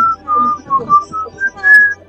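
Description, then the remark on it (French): Someone whistles a short, off-key tune: a string of wavering notes in quick phrases with brief gaps, fairly loud over a low background rumble. “Non mais tu siffles faux, c'est...”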